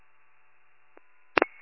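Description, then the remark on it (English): Telephone tones as a call is placed to a caller: a low steady hum runs throughout, broken by a faint click and then two quick, loud telephone tone bursts near the end, followed by a thin lingering tone. “I'll give her a call.”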